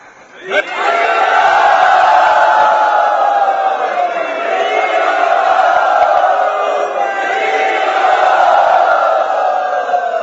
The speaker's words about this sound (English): And there was a great roar of applause by everyone in the audience.